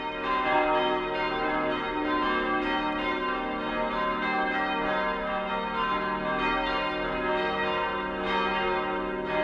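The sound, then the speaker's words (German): Four church bells, acquired fifty years ago, peal together continuously from the tower of the church in Radertal, a dense, steady wash of overlapping ringing tones with a rich metallic hum, fairly loud and sustained throughout with no voices. “Die vier Glocken, die heute vom Turm läuten, wurden vor 50 Jahren angeschafft.”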